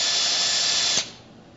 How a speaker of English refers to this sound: Now, if you think about it, you will pay a lot of money to go to a dentist who first will stick a needle in you, hopefully, and then take out a drill and drill inside your mouth.